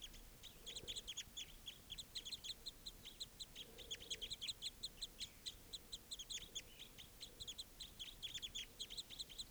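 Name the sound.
crossbill flock calls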